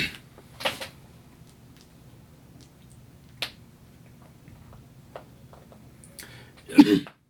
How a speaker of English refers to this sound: She starts coughing.